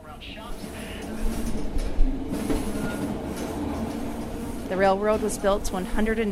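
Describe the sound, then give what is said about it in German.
A train rumbles, rocks and rattles steadily along the rails in a continuous noisy clatter, with a person's voice speaking over it near the end. The train is descending from the White Pass to the Pacific coast town of Skagway, crossing from Yukon into Alaska, on a railway built during the Klondike gold rush. “Auf der Fahrt wird es schaukeln und holpern. Das ist nichts, worüber Sie sich sorgen müssen. Das gehört zu diesem Zug.”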